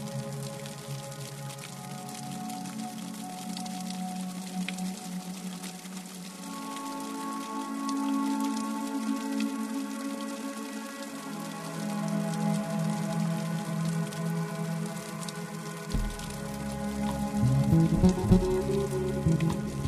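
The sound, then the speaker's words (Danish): Steady rain falls in a continuous, even patter over about twenty seconds, with sustained low tones humming underneath and swelling slightly toward the end. “Det er et af de her regnværsdage, da der dumper en ny opgave ind.”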